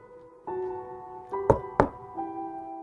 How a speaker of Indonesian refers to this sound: Mengetuk jendela dari luar sambil tertawa terpingkal-pingkal. Mungkin saja. Atau mungkin ini semua hanya imajinasiku. Mungkin aku mendengar suara angin di luar dan mengasumsikannya sebagai suara ketukan di jendela.